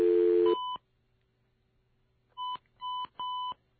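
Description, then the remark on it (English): A few telephone keypad tones from an office phone system dialing 9, then 1, then a number to call a federal building: one short beep, a pause, then three quick dual-tone presses in a row, clear with no talking. “We're sorry for the beeps. That's how our phone system sounds.”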